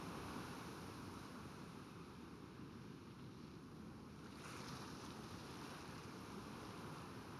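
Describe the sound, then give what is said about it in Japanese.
Steady ocean surf roars continuously, a broad rushing wash with slight swells, heard through an opened window at dusk with some wind noise mixed in. No one speaks. “空の色も素敵ですし、この時期の海もいいですよね。”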